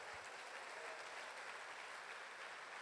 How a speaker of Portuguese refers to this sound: Não, glória a Deus, aplaude Ele aí em nome de Jesus.